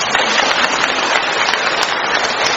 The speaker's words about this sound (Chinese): 鼓掌啊！